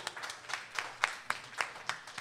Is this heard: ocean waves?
no